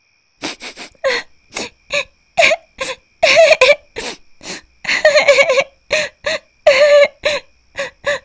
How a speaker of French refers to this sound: Sarah est très déçue et triste. Elle s'assied sous sa fenêtre au pied du mur, la tête entre ses genoux. Sarah pleure.